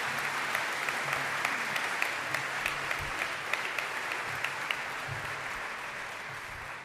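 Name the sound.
audience applause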